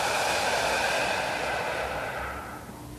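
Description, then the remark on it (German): A long, steady exhalation after a deep breath during a guided group meditation, a breathy rush of air lasting a few seconds that slowly softens and fades toward the end, with no talking. “Und wieder aus.”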